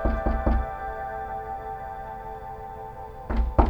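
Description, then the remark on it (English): Three sharp knocks on a wooden motel room door in quick succession, a pause with a low steady hum, then two more firm knocks. “You exhale for a moment with your back resting against the wall, only to hear a knock at the door.”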